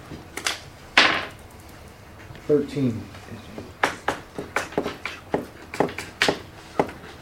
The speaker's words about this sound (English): Roll percentile dice for me.